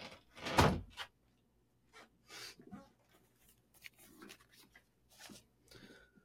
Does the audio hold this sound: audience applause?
no